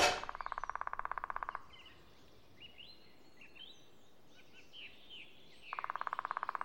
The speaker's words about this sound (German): Hör mal, ein Specht.